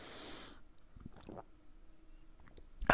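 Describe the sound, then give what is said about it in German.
Someone takes a quick sip of water: a soft breathy exhale, then a few faint wet mouth clicks and a swallow, ending in a sudden louder noise. “Ich nehme noch mal ganz kurz einen Schluck Wasser.”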